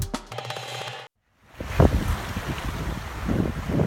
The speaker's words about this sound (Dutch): Het geluid van wind, water en zeilen dat u nu hoort, heb ik van de video geplukt